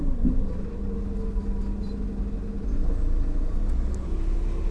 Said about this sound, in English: So we're still on the bus, on the bloggers 2012 tour.